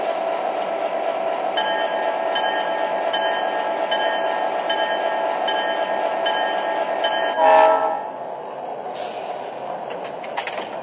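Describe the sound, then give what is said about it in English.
A passenger train, train number 10, the City of St. Louis from Los Angeles, rolls in on track 1 at Laramie with a steady, heavy rumble while its horn sounds in long, sustained tones. A loud hiss bursts out near the end before the noise settles lower. “from Los Angeles on track 1, train number 10, the city of St. Louis.”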